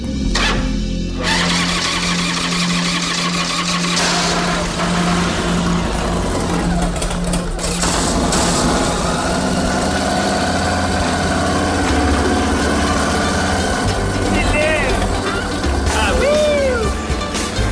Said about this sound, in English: Purr of that engine, it was like a weight was lifted off my shoulders.